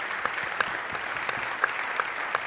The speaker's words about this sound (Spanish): la presencia que ha tenido con nosotros hoy y darle un fuerte aplauso.